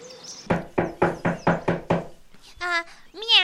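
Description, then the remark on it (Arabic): Six firm, evenly spaced knocks on the door of a cat's house in a children's story, as a rabbit and a frog arrive, ring out clear, followed by a voice imitating a cat's meow in a high, sing-song tone. “وهكذا يا أحبائي وصل الأرنب والضفدع إلى بيت القطة وطرق الباب.”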